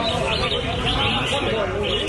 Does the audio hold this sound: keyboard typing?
no